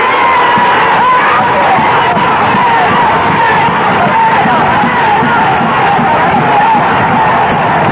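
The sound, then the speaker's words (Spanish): A large crowd shouts and yells continuously, a dense roar of many voices at steady, loud volume throughout, with no clear individual words standing out. “No me equivoqué, ni en la apreciación de los días que venían, ni en la calidad de la organización sindical, que a través de 20 años es de estos estúpidos que gritan.”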